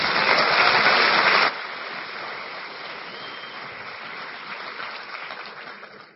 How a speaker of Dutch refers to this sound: Een applaus.